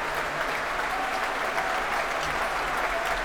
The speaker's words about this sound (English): Returning to the stage now to soak up some more of that applause, bringing the woodwind section to their feet. Now the French horns. Now the rest of the brass section. The two harpists.